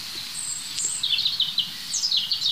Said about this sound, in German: ich weiß nicht, wie es euch geht, aber ich kann mich fast nicht satt hören an diesem Gesang. Das heißt fast, ich kann mich nicht satt hören an diesem Gesang. Und dazu ist das einfach ein super spannender Vogel, das Rotkehlchen. Vogel des Jahres 21.